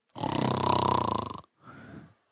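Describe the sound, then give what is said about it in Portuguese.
A voice imitates a man's snoring: one long, loud, rattling inhale, then a shorter, softer snort, with no other talk around it. “Ela ouve aquele cara roncando.”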